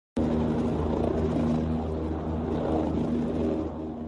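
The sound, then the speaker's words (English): A helicopter shuttling back and forth from the Germanwings crash site in the French Alps drones steadily overhead, its engine and rotor making a continuous low rumble with a steady hum that fades slightly toward the end. No voices are heard. “Helicopters continue to shuttle back and forth from the German Wings crash site as investigators continue retrieving remains and pieces of the plane shattered into small particles from the high-speed impact of the crash.”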